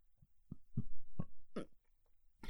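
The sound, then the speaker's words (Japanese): A string of short, low, throaty burps erupting in quick uneven succession, about five in a couple of seconds, with no talking around them. “ゲップって癖になっちゃうんですかね。”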